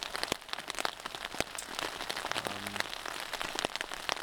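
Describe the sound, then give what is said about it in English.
Steady rain patters on the taut fabric of a tiny tent, a dense scatter of sharp little drops tapping continuously all around with no voices, a brief low hum surfacing in the middle. “I'm in this like tiny tent. The rain is pitter-pattering all around me.”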